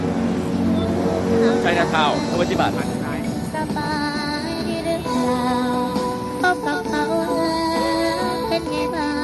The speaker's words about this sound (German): Nicht nur von Autos und bunten Taktaks wird man überall in der ganzen Stadt verfolgt